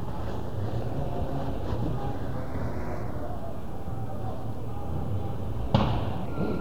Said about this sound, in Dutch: Ik sta nog steeds op de hoek van de Vondelstraat en de Tesselschadestraat. Ik kijk recht op de panden of eigenlijk op een immens groot vuur. Misschien kan je het horen knetteren.